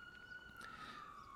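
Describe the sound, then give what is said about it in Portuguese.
An ambulance siren wails in the background, a steady high tone slowly gliding lower beneath a low background hum, with no one talking. “Uma ambulância aí de fundo.”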